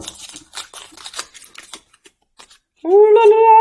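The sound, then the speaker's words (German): Crisp, crackly rustling of a drawn topic slip of paper being unfolded, a quick flurry of dry crinkles that thins out, followed by a voice starting up loudly near the end. “Raschel. Und ich mach's auf.”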